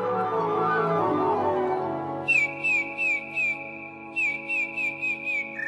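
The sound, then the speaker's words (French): A song thrush sings loud, fluty whistled notes repeated in quick series, two bursts of several notes each, over a steady low humming background that sounds like music. “C'est un oiseau qui a un chant très fort, très sonore, très flûté, avec des répétitions.”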